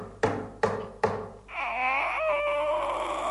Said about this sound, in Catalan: Mort de fam, arriba al poble i truca a una porta.